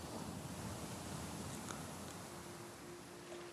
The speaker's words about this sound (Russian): Послушай шум моря, звуки волн, легкая музыка. Море убаюкивает тебя.